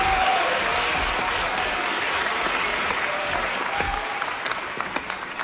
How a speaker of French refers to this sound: Voici le premier concurrent, on les applaudit bien fort.